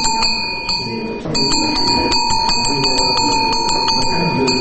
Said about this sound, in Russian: Голос колокольчика проще и тише.